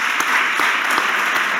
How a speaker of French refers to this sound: Applaudissements.